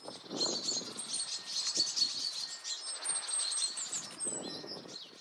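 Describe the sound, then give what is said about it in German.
A mixed flock of chaffinches, blackbirds and various tit species chatters and scolds in agitated alarm as it mobs an owl: dense, overlapping high-pitched chirps, trills and calls continuing throughout, with low rumbling underneath at times. “Und man hört so ein bisschen, wie aufgeregt die Vögel da sind.”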